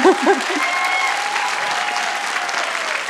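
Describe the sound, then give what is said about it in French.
An audience claps in a steady, dense burst of applause, with a brief voice or cheer rising at the very start before the clapping carries on evenly. “Vous pouvez applaudir, ouais, franchement.”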